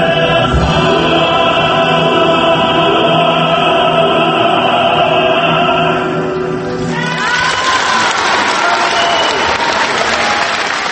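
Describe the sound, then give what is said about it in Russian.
A sustained musical chord rings over rising clapping, then breaks into loud, dense applause from a concert audience at the first concert of the 25th international arts festival Amber Necklace in Kaliningrad, a steady roar of many hands that continues to the end. “Сборных оваций начался в Калининграде первый концерт 25-го международного фестиваля искусства «Янтарное ожерелье».”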